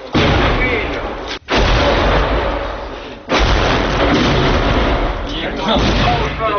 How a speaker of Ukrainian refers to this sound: Обстріл наростає, тому залишатись на поверхні стає вкрай небезпечно. Частина бійців залишає позиції і спускається в підвал.